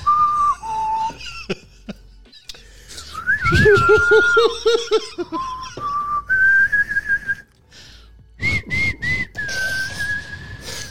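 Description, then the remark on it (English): A coach's whistle is blown in a series of breathy, airy bursts, its thin tone wobbling and shifting in pitch, fairly loud with rustling noise between blasts. “That your whistle suck, Coach. You gotta clean it up. Son. Too much wind.”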